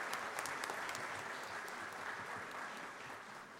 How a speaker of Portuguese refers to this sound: Uma salva de palmas para a banda ….